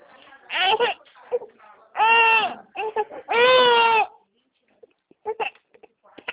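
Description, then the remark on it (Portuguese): A baby being given a bath cries loudly in three long, wailing bursts, with brief whimpers and sniffly fragments between them and a few short, quieter sounds near the end. “É porque eu tô dando banho no neném.”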